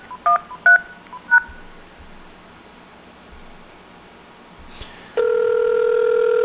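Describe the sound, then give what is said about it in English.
Three short touch-tone beeps from dialing 774 on a Uniden cordless phone keypad sound in quick succession, followed by a few seconds of faint hiss, then a steady, loud phone line tone that continues to the end. “Now, as I had stated, I have this Uniden cordless phone in my hand.”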